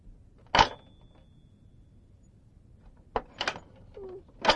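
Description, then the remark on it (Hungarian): A drawer being pushed back in: a sharp clunk, then after a pause a quick pair of scraping knocks and a final thud, fairly loud, with no talking. “Visszadugja a fiókat.”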